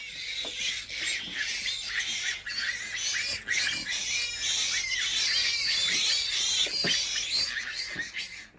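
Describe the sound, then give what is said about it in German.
Pigs crowded in stables, sties and pens grunting and squealing nonstop, many animals at once in a dense, shrill chorus that stays loud throughout, with no voices. “In allen Ställen, Verschlägen und Koben, in allen Ecken und Winkeln, überall grunzten Schweine.”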